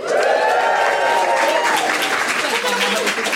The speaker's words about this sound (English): Hear that applause. Incredibly compared to when they got one question right.